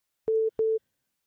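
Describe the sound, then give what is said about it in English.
Two short, steady electronic phone tones sound in quick succession, each beginning with a faint click, as a caller who was dropped dials back in to the call from his house phone. Nobody speaks. “Oh, he's dialing back in.”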